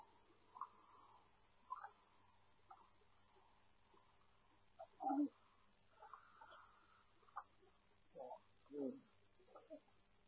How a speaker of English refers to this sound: All the birdies are in play. I've been watching a bunch of birds going stuff in here.